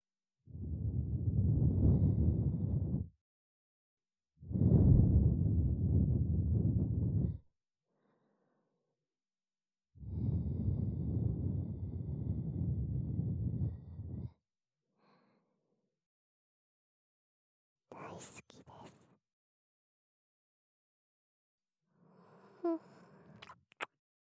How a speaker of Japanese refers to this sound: 吐息を失礼いたします。